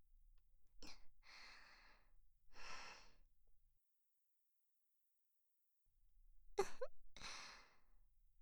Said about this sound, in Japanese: またあくび出ちゃったね。もうだいぶ眠りに誘われているみたいね。